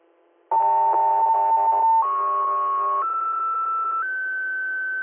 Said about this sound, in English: South 3, you're standby for Tones.